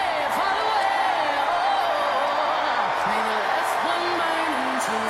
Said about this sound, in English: And the crowd enthused. This raucous crowd at the DNC, at the United Center, they're loving them some Kamala Harris.